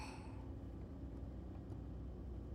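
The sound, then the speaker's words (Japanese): Steady low rumble of a car driving onto an expressway in heavier-than-usual traffic, with constant engine and tire noise filling the whole stretch and a brief brighter hiss at the very start. “ここから高速道路に乗るんだね。いつもより車多いよね。”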